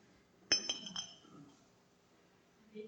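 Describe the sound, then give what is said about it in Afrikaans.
A broken teapot lid clinks against the pot as it is handled: a few quick, bright ceramic taps ring briefly, followed by quieter shuffling. “Die dekselkie is nie die regte dekselkie nie. Die dekselkie het gebreek.”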